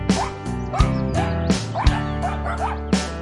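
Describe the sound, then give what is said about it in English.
A dog barks repeatedly, six or seven sharp barks in quick, uneven succession, loud and clear with no one speaking. “She's a funny dog with a brown nose and a long tail.”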